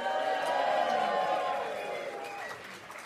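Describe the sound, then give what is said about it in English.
An audience at a live writing competition boos a timer loudly and steadily, a dense wash of many voices holding a low, drawn-out jeer that tapers off slightly toward the end. “I like the boos that the Time Timer is getting.”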